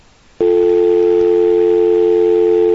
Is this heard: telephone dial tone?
yes